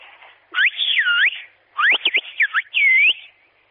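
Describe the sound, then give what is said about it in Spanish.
A whistled phrase for the Spanish 'adiós, buenas noches' (goodbye, good night), whistled with a mobile phone held a little away: three loud bursts of high, sliding whistle tones that swoop up and down in pitch, separated by short pauses, with no talking. “¿tú nos podrías silbar algo? Sí, lo que ustedes quieran. Pues, no sé, por ejemplo, adiós, buenas noches.”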